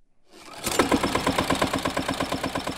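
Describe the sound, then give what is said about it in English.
A tractor engine rumbles to life after a brief near-silence, then chugs steadily in a fast, even rhythm of pulses, loud, with no voices; a farmer rides it through his organic olive grove of over 1,000 trees in Calabria, southern Italy. “He rides a tractor through his grove of over 1,000 trees.”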